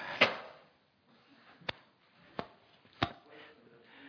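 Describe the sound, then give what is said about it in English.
A door thumps shut near the start, followed by three sharp, separate clicks spaced about a second apart, like a latch or handle rattling, otherwise quiet. “Thank you for shutting that door, though, brother.”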